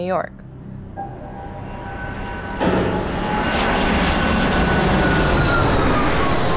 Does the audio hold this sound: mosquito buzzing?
no